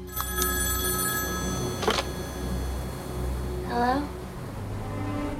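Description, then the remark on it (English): A telephone in a hotel rings at night in short electronic bursts against a steady low hum, moderately loud, waking a sleeper in bed, with a brief murmur-like sound near the end. “The phone wakes Lucy.”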